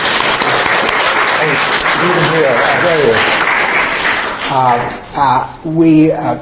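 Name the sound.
audience applauding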